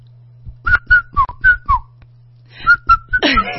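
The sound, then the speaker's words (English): Someone whistles a song's melody, a quick run of about eight clear notes, some sliding down in pitch, over a steady low hum, ending in a rough burst of noise. “I mean, the other day I was walking and these 10-year-old boys were being just naughty and they started whistling.”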